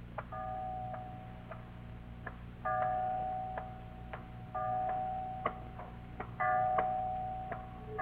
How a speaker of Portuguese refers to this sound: O relógio bateu meia-noite.